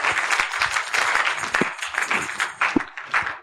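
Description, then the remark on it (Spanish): A crowd claps their hands together as applause offered to God, in a sustained, dense burst, steady and fairly loud for a few seconds, with no one speaking over it. “Unas palmas a Dios en esta hora.”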